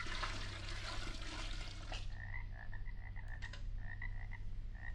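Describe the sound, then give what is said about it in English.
A rushing gush of about a gallon of swamp water being poured fills the first two seconds, then gives way to a steady run of chirpy frog croaks repeating over a low hum. “Instead of nightingale's tongues, I'll pour in some magic Transylvanian swamp water, about a gallon's worth.”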